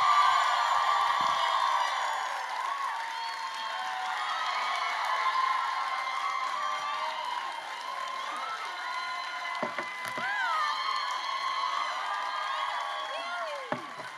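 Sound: crowd cheering and whooping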